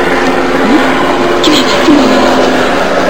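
A helicopter drones steadily overhead, its loud, continuous engine and rotor roar filling the whole stretch without letting up, with a few brief voice sounds faintly underneath.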